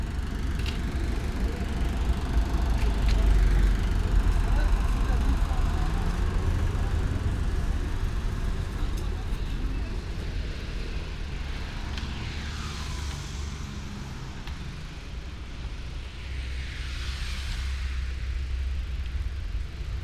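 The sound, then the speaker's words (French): A steady, loud low rumble of motor traffic, with a couple of vehicles swelling up and whooshing past in the second half. No one speaks. “Attention, à tout moment, des véhicules à moteur peuvent surgir dans votre paysage sonore.”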